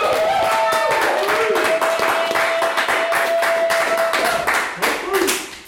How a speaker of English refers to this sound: It's the most applause I've ever received for any reason. That's great.